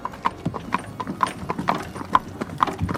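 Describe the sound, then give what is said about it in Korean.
Steady hoofbeats of a shared horse-drawn coach bound for Perros-Guirec at dawn clip-clop in an even rhythm, about two sharp knocks per second, over a low rumbling of wheels. Each strike rings with a bright, hollow tone. “다음 날 동틀 무렵 기차에서 내린 라울은 페로기렉으로 가는 합승 마차로 갈아탔다.”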